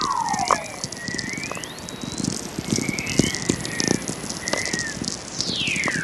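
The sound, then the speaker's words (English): Natural radio from Earth: steady crackling static full of sharp pops, with several faint whistling tones that sweep and glide in pitch, some falling and some rising, scattered throughout. “When I discovered Earth makes its own radio waves, I was amazed because I'm a nature enthusiast anyway, you know, always been interested in astronomy and science.”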